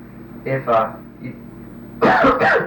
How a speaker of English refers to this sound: I've got a little. A cough.